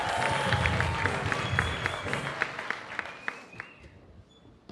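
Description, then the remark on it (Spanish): A crowd applauds a mentalist, many hands clapping in a dense, bright patter that gradually thins and fades out toward the end, with a few scattered claps lingering. “Traje un aplauso regalitos.”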